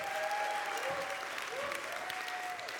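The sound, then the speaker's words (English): A crowd applauds steadily for the children's director, a dense wash of clapping that holds at an even level throughout, with a few thin whistle-like tones gliding above the clapping. “Give her a round of applause, all the work she did.”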